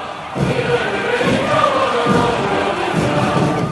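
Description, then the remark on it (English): A large crowd roars and cheers steadily at a military parade in China celebrating 70 years of Communist Party rule, as tanks roll, a dense wash of voices with a few rhythmic low thumps rising and falling beneath the noise. “At the military parade celebrating 70 years of Communist Party rule, crowds cheered, tanks rolled, and Xi Jinping smiled.”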